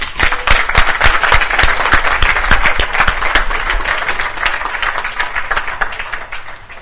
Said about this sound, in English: Amen. Give them a clap.